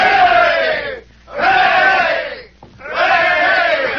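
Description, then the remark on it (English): A railroad construction crew of men at a camp 20 miles west of Jamesville gives three cheers for Rigger McClure, each hearty hurrah lasting about a second, separated by short pauses. “Three cheers for Rigger McClure.”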